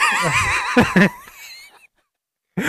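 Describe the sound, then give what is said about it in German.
A person imitates a horse's whinny with a loud, wavering, high-pitched voice, interrupted by two sharp claps on the chest, then trailing off into silence before a brief noise returns. “Ja, kennst du noch von früher, wenn die Leute immer dieses Pferd nachgemacht haben mit dem zweimal Klatschen auf der Brust oder so?”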